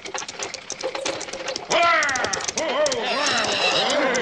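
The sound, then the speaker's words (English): Brisk, steady clip-clop of horses' hooves pulling a coach carrying a passenger approaches and grows louder, arriving on schedule, with a sudden swell of voices overlapping the hoofbeats in the second half. “Yeah, I could have saved the horses a mite and been a bit late.”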